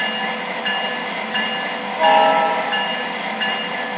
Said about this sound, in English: At this stop, we'll do our 1,000-mile train inspection.